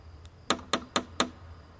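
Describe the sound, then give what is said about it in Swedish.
Four sharp, evenly spaced metallic knocks from a lion's-head brass door knocker on a house door, with a faint lighter tap just before them, ringing briefly against a quiet background. “Jag tog tag i dörrknackaren. ett lejonhuvud i mässing och knackade på.”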